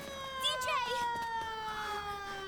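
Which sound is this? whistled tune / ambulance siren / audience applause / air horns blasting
ambulance siren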